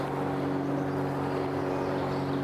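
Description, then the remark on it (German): A helicopter drones steadily, its low engine hum carrying a few buzzing tonal lines over a rushing wash of noise, constant in loudness throughout with no voices. “Klingt wie ein Hubschrauber.”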